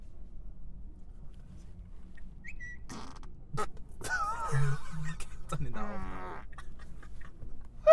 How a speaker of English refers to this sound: Go on, do it. You can fart on the turn signal.